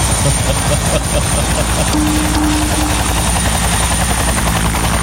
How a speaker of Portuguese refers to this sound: Já o helicóptero tá posando? Olha lá, que massa, hein? O helicóptero posando aí.